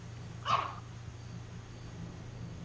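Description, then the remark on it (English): One short dog bark sounds, a single sharp yap over a steady low background hum, with no voices and nothing else happening before or after. “For a second, I thought the dog barking was at the Sony thing.”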